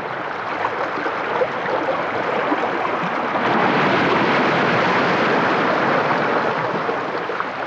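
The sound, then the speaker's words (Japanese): On a calm day, gentle waves wash softly onto the shore in a steady, unbroken hiss, swelling slightly midway before easing back, down to the moment each wave fades. No voices, just calm water. “波が消える瞬間の音まで優しく聞こえてきました。”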